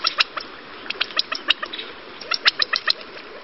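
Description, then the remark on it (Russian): Quail calling in a quick, irregular series of short, sharp chirps and clicks, some doubled, moderately loud against a faint background hiss, with no voices. “Перепел – это когда много выпил, а перепел – это птичка.”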